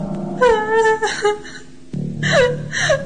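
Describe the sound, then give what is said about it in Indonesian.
A woman cries out in pain near a prayer room in a hospital, with wavering, strained whimpers and moans rising and falling in two drawn-out bursts, fairly loud, with no other voices. “Seperti tangisan wanita yang kesakitan.”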